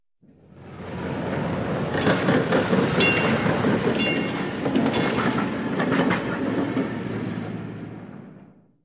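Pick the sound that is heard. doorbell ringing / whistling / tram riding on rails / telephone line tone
tram riding on rails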